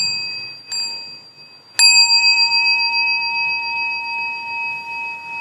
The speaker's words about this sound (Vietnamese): Chúng ta lắng nghe tiếng chuông của mình hồi hướng.